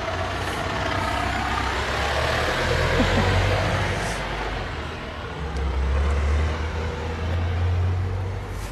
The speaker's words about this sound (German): Da kommt mal gerade ein Lastwagen, wir gehen mal zur Seite.